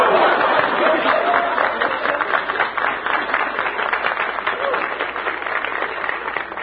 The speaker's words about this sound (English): That loud and vociferous applause comes from the Junior Chamber of Commerce. Good-looking young fellas. There are an awfully lot of good-looking young fellas in here, yes.